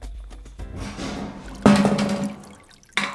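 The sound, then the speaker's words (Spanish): A water bucket being hauled up from a well, its water murky and salty: soft trickling and sloshing, then a loud splash that pours on for about a second, and a second brief splash at the end. “ayúdeme con este balde. ¡Sí, estoy tirando, pues!”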